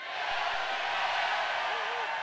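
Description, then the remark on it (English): A crowd at Deltopia bursts into a loud, sustained group yell together on the count of three, a "Del yell", a dense roar of many voices holding steady for about two seconds without any clear words. “So on your, give a best Del yell on three. 1, 2, 3.”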